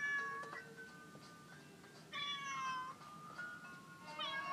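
A cat meows loudly and insistently, with long drawn-out wails around the start, middle and end, over a faint background hiss and no talking.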